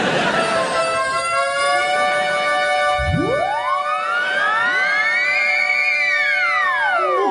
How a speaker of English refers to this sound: Here he comes up. Well, there he goes. Because that will be defying the laws of physics, wouldn't it? That will be an ambulance attending an emergency in another dimension.